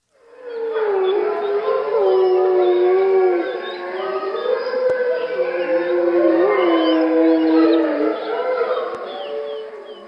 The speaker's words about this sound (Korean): 가만, 아니, 저건 뭐지? 그는 갑자기 오싹해졌다. 친숙한 울음소리가 길게 끌리면서 공허를 깨뜨렸던 것이다.